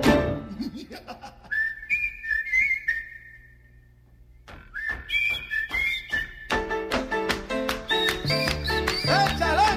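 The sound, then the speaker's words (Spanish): A whistle is blown in short melodic phrases of high, wavering tones, joined by crisp tapping and busier layered sounds toward the end, moderately loud. “Tocaron esto, el pito.”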